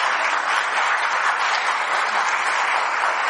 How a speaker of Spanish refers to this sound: Mire, si hubo quien aplaudiera a pesar de estar comiendo, qué bonito, a ver el aplauso a Jesucristo, ¿cómo es?